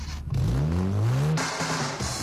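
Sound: car engine revving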